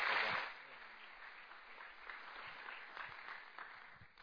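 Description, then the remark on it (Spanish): A burst of audience applause welcoming a guest speaker, loudest at the start and then settling into steady, dense clapping from many hands that continues throughout. “Un buen aplauso, por favorcito.”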